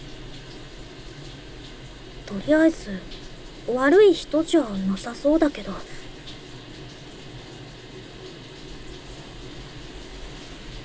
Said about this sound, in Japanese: 半ば強引にシャワー貸してもらえたのはありがたいけど、お兄さんのシャワーが終わるまでじっと待ってるのもなんか緊張するな。